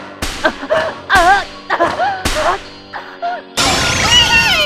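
Three sharp whip cracks land about a second apart, each followed by a wavering, pained vocal cry, ending in a longer, loud shriek, in the backroom of a maid cafe late at night.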